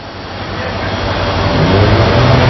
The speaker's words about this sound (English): Probably still not done hearing that train, by the way. It's slowly making its way on the railroad tracks behind the ballpark.